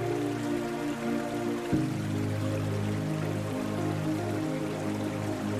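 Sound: flowing water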